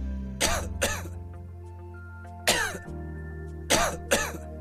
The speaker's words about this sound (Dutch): Keelpijn, droge hoest, Activox verzacht de keel en helpt de irritatie te kalmeren vanaf de eerste prikkel.